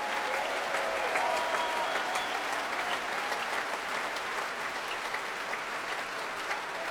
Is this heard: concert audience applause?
yes